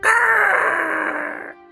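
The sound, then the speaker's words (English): A person's voice imitates an eagle cry with one loud, sustained, slightly strained call lasting about a second and a half, then cutting off abruptly. No other sounds are present. “If you're gonna make eagle noises, really commit with your mouth so we know.”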